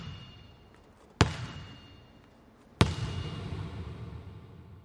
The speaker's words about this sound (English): But then we went into the corner of the room, and I got elevated on the bleachers, and I had my microphone above the ball, and the guy slammed the ball on the ground, and then as the ball was coming up to my microphone, you hear the ping.